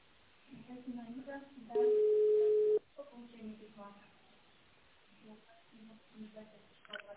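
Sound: telephone touch-tone keypad dialing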